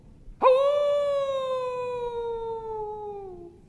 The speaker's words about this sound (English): Then again you hear it, louder and clearer this time, the call of a wolf.